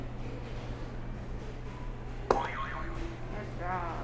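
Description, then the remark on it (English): A buzzer sound effect: a sharp click, then a wobbling tone that slides up and down, and a shorter warbling burst near the end, all over a steady low hum. Nobody speaks. “Go ahead and put the buzzer for me.”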